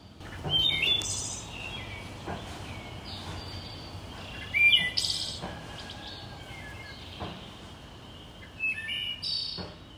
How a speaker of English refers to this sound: We'll give you a little more birds and then we're gonna sign off from Asheville.